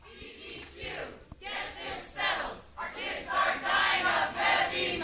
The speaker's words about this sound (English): A crowd of protesters who live in the east side of Portland marched into the Department of Environmental Quality's office last Thursday to hand deliver a letter of demands to the DEQ's new interim director.